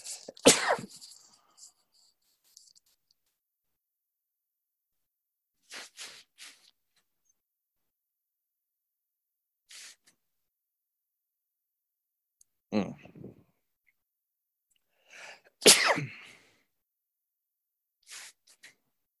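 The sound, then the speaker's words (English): A string of sharp, loud sneezes bursts out at irregular intervals, with quieter breathy sniffs and pauses of silence between the fits. “I think I'm going to get a sneezing attack here.”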